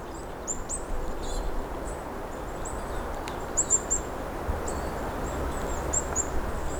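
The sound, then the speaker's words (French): Birds chirp and twitter outdoors in fir forests on the way to Lac de la Pradeille, in repeated short high bursts, over a steady broad rush of south-west wind and background noise. “Et les oiseaux et le bruit de fond enchantent notre carte postale sonore.”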